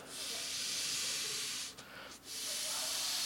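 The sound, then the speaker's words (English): Air hisses steadily into a ball being inflated, a loud, bright, continuous rush broken by two quick pauses near the end before resuming. No one speaks. “I gotta fill it. You can't just pop a, you can't throw a flat ball out into the crowd.”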